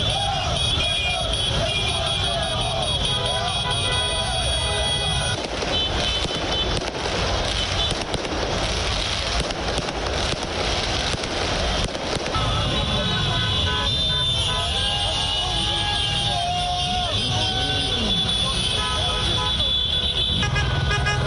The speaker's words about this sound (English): Paris Saint-Germain supporters celebrated their football team reaching the UEFA Champions League final for the first time. The fans blared car horns and waved PSG flags and jerseys after the 3-0 victory against Leipzig of Germany in Lisbon, Portugal.